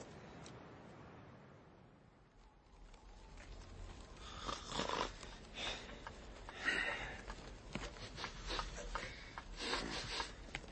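A man sleeping by the fire snores with rough, raspy snorting breaths that swell in irregular bursts after a quiet start, with no talking.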